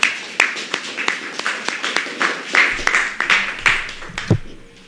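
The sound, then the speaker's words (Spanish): A crowd applauds the musicians who played instruments and sang at a liturgy, with dense, steady clapping, many hands overlapping into a bright rattling wash for several seconds before it thins out and fades near the end. “Mientras ya se lo pague, le damos fuerte aplauso.”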